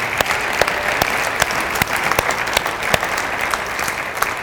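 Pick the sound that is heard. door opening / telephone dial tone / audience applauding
audience applauding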